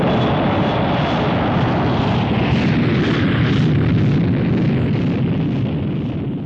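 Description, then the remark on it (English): A loud, sustained roar of the giant XB-70 supersonic research jet passing overhead on its final mission in 1968, with a broad rumbling low end and a slowly wavering hiss above it, no voices present. “Also flying its final mission during the year was the giant XB-70 supersonic research plane.”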